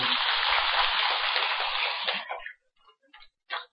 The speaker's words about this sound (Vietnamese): Kính thưa toàn thể quý Phật tử, cha mẹ của cô dâu chú rể, và thưa hai nhân vật quan trọng nhất trong đêm hôm nay là cô dâu và chú rể, xin quý vị dành tràng pháo tay để chúc mừng.